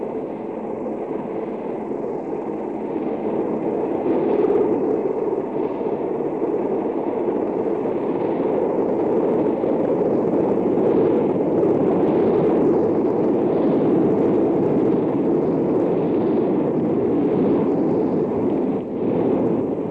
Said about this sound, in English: The color guard from the Marine Barracks in Pearl Harbor, silhouetted against the recovery helicopter as it comes down for a very soft landing aboard Okinawa.